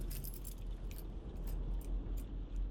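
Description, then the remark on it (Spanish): A bunch of car keys falls from a pair of trousers being taken off and jangles onto a mattress in several quick metallic bursts, over a steady low rumble in the background. “Él se quita los pantalones y caen unas llaves al colchón.”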